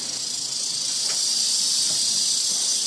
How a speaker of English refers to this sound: So I finish up my open house, go to step out the door, and there's this little rattlesnake outside. He's pretty little. He don't look too dangerous to me.